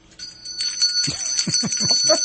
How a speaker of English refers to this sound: This is a double bell ringing because. Oh, here I thought it was the holidays.